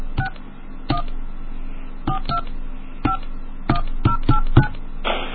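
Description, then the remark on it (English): A quick series of touch-tone phone keypad beeps, about ten presses in an uneven rhythm, entering a Navy phone card number, clear with a low hum underneath and no voices. “Please enter your card number now.”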